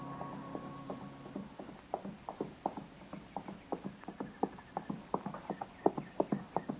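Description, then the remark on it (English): Steady clip-clop of a horse's hooves on a trail, a regular rhythm that grows louder as it approaches, with a faint low hum underneath at the start. “And just then I heard a horse coming along the trail, and I stepped back and waited.”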